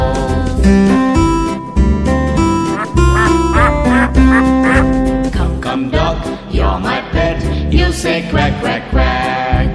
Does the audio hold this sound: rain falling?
no